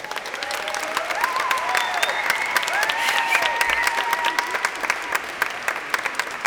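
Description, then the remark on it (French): An audience applauds a saxophone player being introduced, a dense wash of many hands clapping, with faint cheers and whoops rising over the sustained clapping throughout. “On vous demande d'applaudir Odélia au saxophone.”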